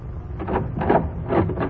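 A door is opened, with a few scraping, creaking swells of sound over about two seconds and no talking.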